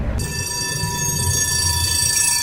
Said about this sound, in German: Die Strecke ist frei, die Testfahrt kann beginnen. Mit 20 Kilometern pro Stunde rollt die fahrerlose Straßenbahn über die Teststrecke im Pilsener Stadtteil Borry.